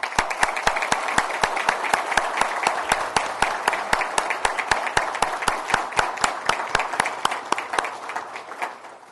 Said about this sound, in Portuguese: E antes de dar início a este momento de celebração, eu quero pedir que a gente dê uma forte salva de palmas aos nossos agricultores.